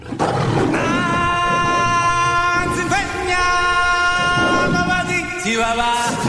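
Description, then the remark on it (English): A short opening jingle for The Sunday Rub's new Lion's Den segment, made by the production team, built around a loud lion roar, with rich sustained tones and a couple of swooping pitch bends, playing continuously for several seconds with no talking. “And the production team have got together and made us a nice little opener.”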